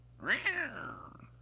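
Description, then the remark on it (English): A person voices a single drawn-out cat meow, rising then sliding down and trailing off over about a second, with a faint steady hum underneath. “You do any cat noises”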